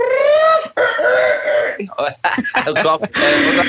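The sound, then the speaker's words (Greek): A person vocally imitates a hen clucking after laying an egg, a string of throaty, choppy bursts with a rising squawk at the start and end, fairly loud. “Έκανε αυτό το κουρκουρκουρκουρκ.”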